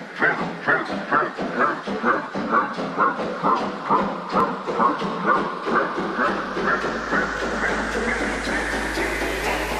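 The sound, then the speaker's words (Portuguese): A steam locomotive chugs with a steady, rapid rhythm of loud chuffs, and a broad hiss of escaping steam swells and takes over toward the end. “Olha o trem!”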